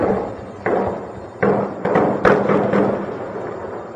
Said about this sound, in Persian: صدای چند انفجار پیهم آرامش را از مردم ساکن در غرب شهر هرات گرفت. پس از این انفجار صدای شلیک سلاح سبک و سنگین خبر از آغاز یک درگیری می‌داد.